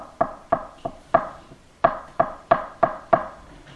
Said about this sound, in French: Le péché est en train de frapper à ta porte comme ça.